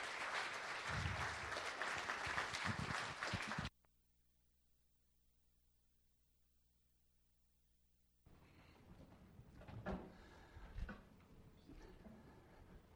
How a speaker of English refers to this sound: So how about another great big round of applause for our graduates? You guys can go ahead and take a seat.